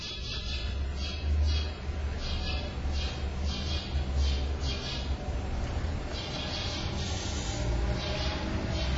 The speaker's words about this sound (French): Vous entendez un oiseau ?